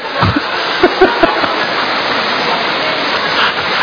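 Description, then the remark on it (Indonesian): Heavy rain pours down in a dense, unbroken hiss that stays steady and loud throughout, with a few brief low thumps and splashes in the first second and a half. “Karena hujan keras.”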